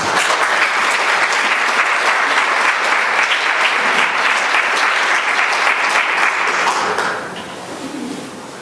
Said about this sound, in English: I ask you to join me in applause and welcome for my favorite apocalyptic visionary